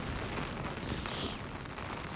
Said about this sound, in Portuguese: Tá foda essa chuva. Neve, chuva, frio, tá foda, cara.